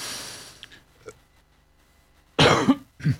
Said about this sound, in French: Et maintenant, je tousse. Parfait.